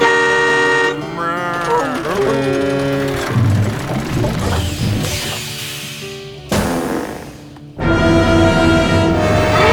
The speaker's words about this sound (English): Hey, you ever gone tractor tipping? It's easy! You just sneak up on them and honk!